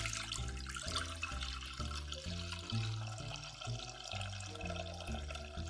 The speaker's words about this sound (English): I'm going to add my broth to my pot.